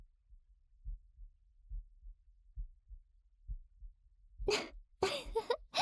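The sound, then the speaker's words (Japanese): A muffled heartbeat thumps in steady lub-dub pairs, about one beat per second, a person's heart pounding from nervousness, before a few sharp rustling bursts break in near the end. “心臓ドキドキしてきちゃった。もしかしてこれだけ近いと、先輩にも聞こえてる？”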